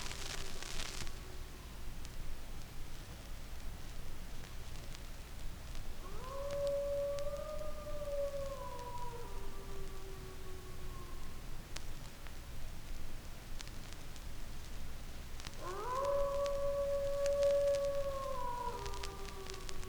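Wolves howl in long, drawn-out wavering calls, two main howls rising and sliding down in pitch, separated by a pause, over a steady background hiss with no voices.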